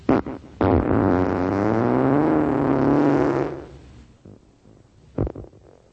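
A long, loud, wet fart sputters and wavers for about three seconds before trailing off, followed by a couple of short, faint pops. No one speaks.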